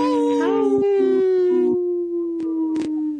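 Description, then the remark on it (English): People howl like wolves together during a show segment sponsored by Howling for Wolves. Their overlapping voices rise into one long, steady wail that holds for about three seconds, with a few brief breaks and wavers. “This portion of the show is sponsored by Howling for Wolves, protecting wolves for future generations. Howl!”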